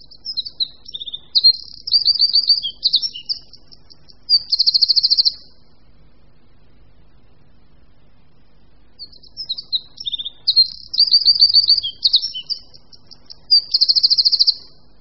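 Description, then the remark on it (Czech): A Eurasian wren sings two loud, rapid bursts of high trilling and chattering notes, each lasting about five seconds, separated by a few seconds of quiet, clear with no talking. “Střízlík je všeobecně známý pták.”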